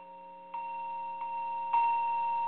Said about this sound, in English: And as we close, I sound this bell at this new moon time.